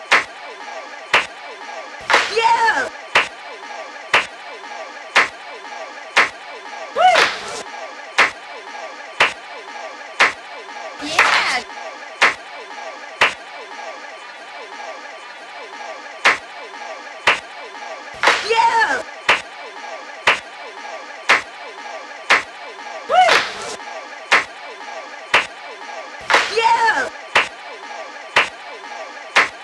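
A funky drum beat with steady, sharp percussive hits about once a second, punctuated every few seconds by louder, fuller accented bursts, repeating in a loose groove.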